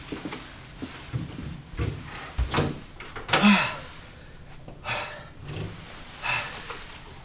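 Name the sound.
heavy panting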